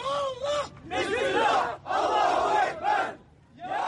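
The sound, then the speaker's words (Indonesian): A crowd of Kurdish protesters in Beirut, protesting the attack ordered by Turkish President Recep Tayyip Erdogan, shouts together in loud, rhythmic bursts, voices rising and falling as a chant, with short pauses between the surges of yelling. “Di Beirut, warga Kurdi memprotes serangan yang diperintahkan oleh Presiden Turki Recep Tayyip Erdogan.”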